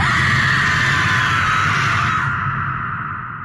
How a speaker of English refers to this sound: And as he watches, she opens her mouth and she screams.